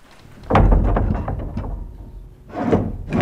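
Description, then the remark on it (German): A heavy chapel door is pushed open with a long, rumbling scrape, followed by two shorter grinding bursts near the end; no one speaks. “So, jetzt gehen wir in die Kapelle hinein. Wir öffnen die Tür.”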